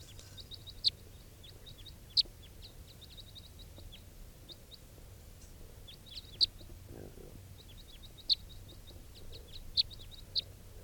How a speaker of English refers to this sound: Recording, it's 9:52 and there's an orange male crossbill perched very near the net setup on a stump somewhere. and I don't know if it's vocalizing.